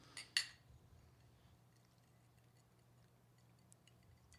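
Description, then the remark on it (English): Glasses of an American-style Negroni cocktail made with American gin clink together in a toast, two quick bright taps in quick succession, followed by a few seconds of near silence with a faint low hum and scattered small ticks. “And I think that we should give cheers. It a delicious little cheers here.”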